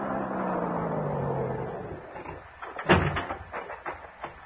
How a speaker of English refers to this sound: Then I heard it, the hot rod coming down the soggy wagon road.